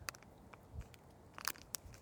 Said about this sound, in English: I am getting, you hear that paper rattling, this is a power bar energy gel blast.